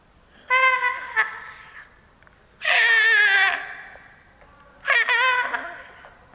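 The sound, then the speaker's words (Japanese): Sheep bleat from a distance at sunset: three wavering, nasal calls with a quavering tremble, each about a second long, spaced a couple of seconds apart over a quiet background. “遠くの方から羊たちの声が聞こえます。”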